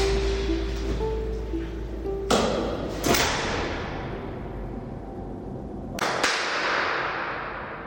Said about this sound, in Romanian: Cam așa sună o aulă universitară ca cele ale Universității Agrare, adică o aulă pustie.